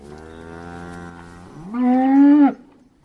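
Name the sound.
cows mooing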